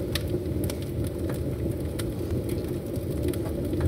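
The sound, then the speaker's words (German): A fire crackles steadily, a dense low roar dotted with sharp, scattered pops and snaps, with no voices over it. “Das Feuer knistert schon und alle sind hier mega in Weihnachtsstimmung.”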